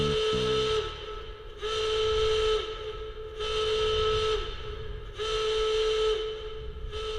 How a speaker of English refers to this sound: But he doesn't have all the information about the inside, about those defenses. Because just then, a siren begins to wail.